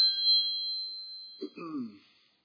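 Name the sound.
mobile phone ringing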